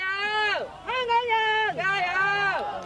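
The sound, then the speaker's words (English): A crowd chants "Keep fighting" in unison to waving journalists of the Apple Daily newspaper as its last edition goes to print: three drawn-out phrases in a steady rhythm, each ending with a downward fall in pitch, loud and sustained with brief gaps between them. “Not a normal way to end the workday, but these journalists wave to a crowd of people who chant, "Keep fighting."”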